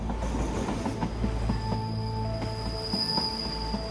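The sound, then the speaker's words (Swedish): A metro train rumbles past, heard from the platform at Farsta metro station, a heavy low roar with high, steady wheel squeal and occasional metallic clacks, continuous throughout with no voices. “Han går ner till Farstas tunnelbanestation och skickar sms till Sandra om att han står på perrongen och känner vinddraget från tåget.”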